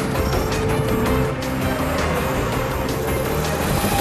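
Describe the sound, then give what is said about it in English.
A helicopter flies near a Ferrari being driven, its heavy engine and rotor noise loud and steady for the whole stretch, mixed with a rumbling vehicle drone and no voices. “A helicopter flies near the car.”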